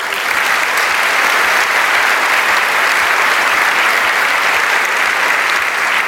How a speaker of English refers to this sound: So one more round of applause for these folks.